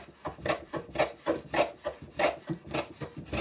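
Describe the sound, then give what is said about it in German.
A hand plane shaving wood in a workshop in a quick, steady series of about a dozen rasping, scraping strokes, each a short hissy swish, with no voices. “Mit dem Hobel bearbeitet er das Holz.”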